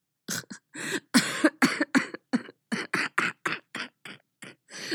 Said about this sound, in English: his laugh turning into a cough that rattled his healing ribs.